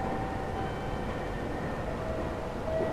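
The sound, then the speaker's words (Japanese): A train rumbles steadily as it arrives at platform 1 of a Tōhō Dentetsu station, a dense, continuous roar of wheels and machinery with faint high whining tones running through it. “まもなく1番線に電車が参ります。”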